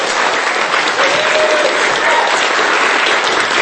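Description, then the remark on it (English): A crowd applauds steadily for several seconds, thanking speakers at an event, the clapping dense, loud and continuous from start to finish with no voices breaking through. “And please give Mel and Scotty and Will another warm clapping.”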